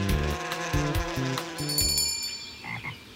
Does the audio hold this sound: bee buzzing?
yes